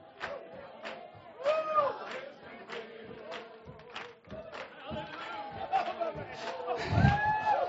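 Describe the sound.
Loud, excited shouting from several voices over a murmuring crowd, with repeated rising and falling cries in bursts about a second apart and a few dull thumps underneath.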